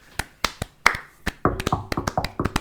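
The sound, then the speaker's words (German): Hand clapping, starting as a few slow, separate sharp claps and then picking up into a quicker, busier burst of several overlapping claps. No one speaks. “Und du auch einfach mal Applaus an euch selber.”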